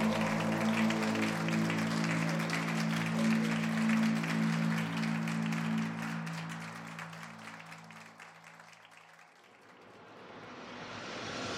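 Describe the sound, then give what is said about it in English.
A crowd breaks into brisk, eager applause over a sustained low musical drone, the clapping thick and steady before both fade out, leaving a soft rising hiss at the end. “And around me, the room comes alive with eager applause.”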